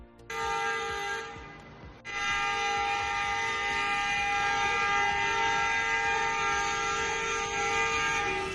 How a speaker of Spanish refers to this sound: El claxon volvió a ser la banda sonora de la protesta.